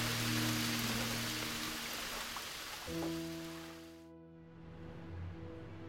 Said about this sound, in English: That night was a long night, and before it became daylight, it started to rain, and it just added to the bleakness and the sadness of that night.